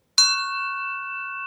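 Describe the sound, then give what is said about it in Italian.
A metal bell is struck once with a small tap, giving a bright, clanging attack, then rings on in a deep, steady, sustained tone that barely fades over the next second or so. No one speaks. “Il suono era profondo e rimaneva a lungo nell'aria.”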